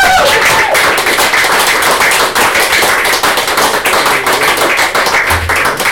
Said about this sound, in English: Right, that's the end of the night. Give yourself a huge round of applause.